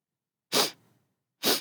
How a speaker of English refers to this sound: You're sniffing. You're using your nose. Yes, I'm sniffing with my nose. Let's do it together. Let's sniff with our noses and make this sound.